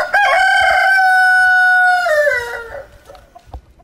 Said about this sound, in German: Mit den Geräuschen der Wirklichkeit, aus dem einem nur der krähende Hahn aus dem südchinesischen Karstgebirge von Yangshuo wecken kann.